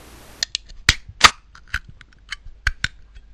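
A pull-tab can being opened: a soft hiss at the start, then a string of sharp metallic clicks and snaps at an uneven rhythm, with two louder cracks near the middle. No one speaks.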